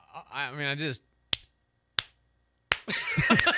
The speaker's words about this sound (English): Let the slow clap roll, yeah.